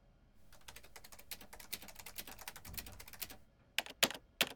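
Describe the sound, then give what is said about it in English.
Rapid, forceful keystrokes clatter on a computer keyboard in a dense, uneven burst, ending with a few especially hard, separated key slams. Fairly loud, with no voices. “Creator, please don't damage your keyboard.”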